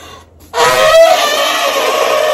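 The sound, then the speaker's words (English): After a brief quiet moment, a person lets out a loud, sustained, brassy trumpeting call imitating an elephant, holding steady and harsh for about two seconds. “You know the elephant sound that I can do.”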